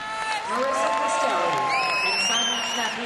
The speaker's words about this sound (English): Among those in the crowd cheering are teammates.